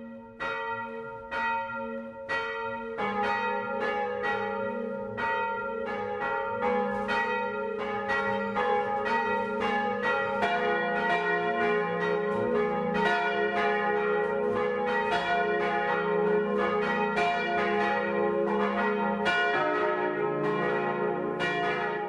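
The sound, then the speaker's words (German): Several bells of the parish church in Pauluszell, Lower Bavaria, Germany, ring together at 12 noon in a steady, overlapping peal, loud and continuous, their tones layering into a rich, resonant midday chime with no voices present. “Das Mittagsläuten kommt heute aus Pauluszell in Niederbayern.”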